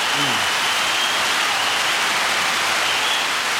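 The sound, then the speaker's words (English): Sustained applause from a crowd, a dense, steady wash of many hands clapping at once that stays loud and even throughout, with a brief murmur of voice near the start. “Damn, that's a long clap for advice, huh?”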